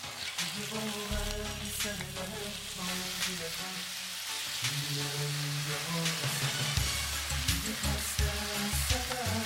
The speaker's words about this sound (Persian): خب دوستان، من یه مقدار خیلی کمی ته مایتابه روغن ریختم. بعد از اینکه روغن داغ شد، یاد رو بهش اضافه میکنیم. پیازمون رو تفت میدیم، یه مقدار خیلی کمی که رنگ عوض کرد گوشت رو بهش اضافه میکنیم.